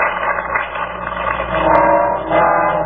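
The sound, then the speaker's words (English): A car drives along with a steady, muffled engine drone and road rumble that swells slightly midway, with faint mechanical rattles and no voices, from a scene in the film Double Indemnity in which Barbara Stanwyck's character is driving her car. “She's driving in her car.”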